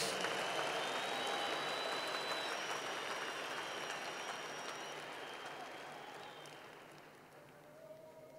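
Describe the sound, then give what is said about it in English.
An audience claps hands for the Lord Jesus Christ in a dense, sustained burst of applause that stays steady, then slowly tapers off toward the end, with faint crowd voices mixed in. “Clap your hands for the Lord Jesus Christ.”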